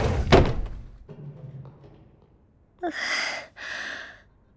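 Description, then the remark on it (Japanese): A desk and chair being shifted and carried away: one loud wooden thunk, a stretch of faint rustling, then two short breathy scraping bursts near the end. “ここの机と椅子持ってくね。”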